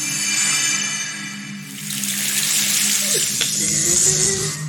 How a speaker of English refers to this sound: Did you just pour water on her and killed her?